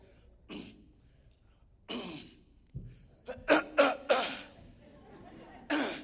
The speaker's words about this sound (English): Clear my throat so y'all can hear me closely.